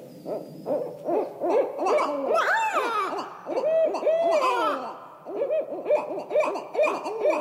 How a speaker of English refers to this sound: The calling you're hearing now is from a couple of barred owls, and they're being territorial. Do you know what territorial means? Yeah, territorial means, hey, this is my tree. You stay away.